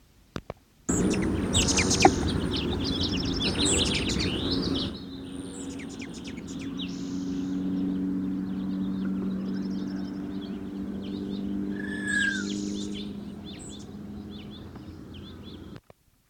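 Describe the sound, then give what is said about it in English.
Aggressive chatter and wing whistle of a male Allen's hummingbird (Selasphorus sasin, probably of the mainland race), Franklin Canyon Study Area, 11 May 1969: a loud, buzzy burst of rapid high squeaks for several seconds, then scattered thin, sharp chips and a brief whistled note over a steady low hum. “Aggressive chatter and wing whistle of male sasson, Franklin Canyon Study Area, 11 May 1969.”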